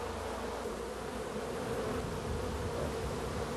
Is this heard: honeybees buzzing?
yes